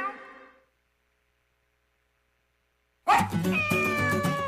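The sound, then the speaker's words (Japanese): A kitten gives one short, high meow, then falls silent for a few seconds before a louder, fuller wash of sustained tones starts up and carries on. “子犬、子猫、子犬、子猫、ペットショップワンラブ。”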